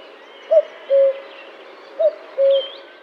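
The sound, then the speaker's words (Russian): A cuckoo calls twice in a shady grove in June, each call a clear two-note 'cu-coo' with a short first note and a longer second, ringing out over a quiet, faintly hissy outdoor background. “Ку-ку! — кричит кукушка.”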